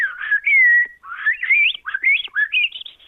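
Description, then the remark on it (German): A person whistles an imitation of a Eurasian blackbird's song: a run of full-toned, solemn, fluting, warbling phrases with rising and falling pitch, clear, with no talking. “Star geht, nee, Amsel kann ich gut. Ja, aber wie geht die Amsel?”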